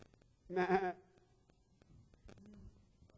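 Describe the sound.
A single loud, wavering sheep bleat rings out for about half a second, then fades into faint background murmuring and a softer voice.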